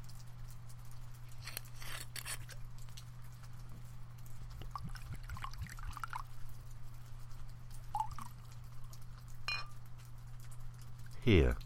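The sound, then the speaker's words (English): Quiet clinks and small handling sounds over a steady low hum, ending with a brief pour of Kahlua into a glass, its pitch rising as it fills. “Now, if you don't want to get in the tub, go get under the covers, and I'll pour us a drink, and I'll be right there.”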